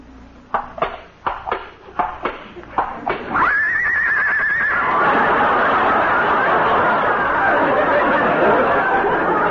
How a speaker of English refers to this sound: Listen to that, Molly. She's caught cold already. Poor kid. Dearie, you can open your eyes now. Lillian is a horse.